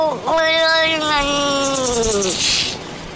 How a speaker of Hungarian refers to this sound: Figyelj, ez már az volt, ez már a macska. Ez egy macska.